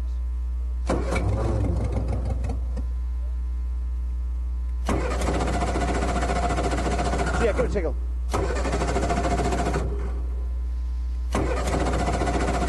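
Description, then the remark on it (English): An engine cranks in several bursts of a few seconds each, whirring and turning over without catching into a steady idle, as not enough fuel is getting into the engine. A voice speaks briefly between attempts. “They can't seem to get enough fuel into the engine.”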